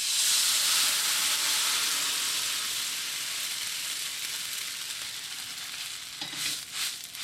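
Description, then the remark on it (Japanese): Dried-scallop soaking liquid is poured into a hot oiled pan of oil-coated pressed barley and softened onion, hitting with a loud, steady sizzle that gradually settles, followed near the end by a few brief clinks and stirring sounds. No one speaks. “押し麦に油がなじんだらここに干し貝柱の戻し汁を一緒に入れていきます。”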